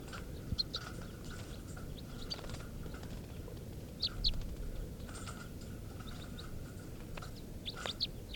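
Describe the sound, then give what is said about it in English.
Short, sharp calls of two male birds, a type 3 male and a type 4 male, in a test recording, sound repeatedly at irregular intervals, some louder than others, over a steady low background rumble and faint rustling. “and these are test recordings of birds 436, the type 3 male, and 437, the type 4 male.”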